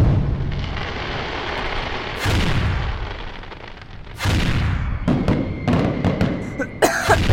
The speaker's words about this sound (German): Rakete um Rakete schraubt sich in den vernebelten Himmel über dem Schanzerkopf. Die Explosionen der vielen Feuerwerke tauchen den Hügel und das Gebäude in einen glitzernden roten Schein. Der Schanzerkopf scheint zu glühen.